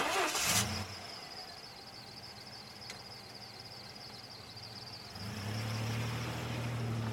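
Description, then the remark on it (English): A car engine catches with a short rough burst, settles into a low rumble under a thin high whine, then picks up again and drones steadily as the car, an Uber ride taking a passenger to a hotel in America, pulls away. “The Uber driver and I got in the car in silence, and he drove me to my hotel.”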